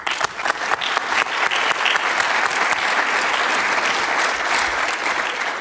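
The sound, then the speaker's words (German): Audience applause at the international Phos4G conference, an extra round for the conference's helpers: dense, steady clapping from many hands that starts in scattered bursts and quickly builds into a sustained, even roar, with no voices standing out. “Ich würde auch gerne ein paar von den Helfern, die super waren dieses Jahr bei dieser Konferenz, und die kriegen jetzt gleich nochmal einen extra Applaus dafür.”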